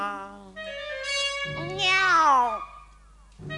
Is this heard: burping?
no